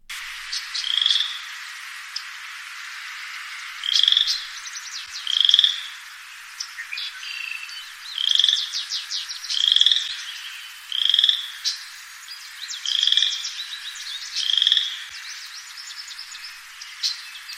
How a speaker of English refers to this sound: That is our friend, the chorus frog, which I remember because it sounds like you kind of scrape your finger along the edge of a comb.